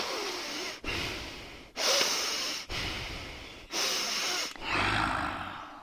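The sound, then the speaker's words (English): Agitated snakes living in a serpent's lake breathe heavily in loud, rasping hisses, about six long breaths following one another in a steady in-and-out rhythm, continuous, with no voices. “When Krishna landed in the serpent's lake, the snakes living there became extremely agitated and began breathing very heavily.”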